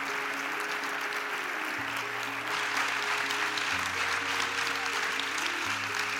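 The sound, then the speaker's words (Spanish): Sustained, loud applause from a crowd welcoming members of a cleaning crew, the Brigada Itinerante de Limpieza, a dense steady clatter of many hands clapping over a low sustained musical tone that shifts pitch every couple of seconds. “Este fuerte aplauso.”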